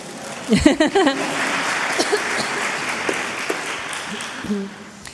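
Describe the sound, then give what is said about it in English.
A crowd applauds after someone explains English idioms, steady, dense clapping that fills the whole clip, while brief voices speak over it near the start and again toward the end. “I think round of applause.”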